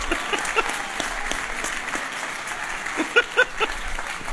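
An audience claps steadily in dense, continuous applause, with a few sharper, louder claps standing out near the end before it carries on.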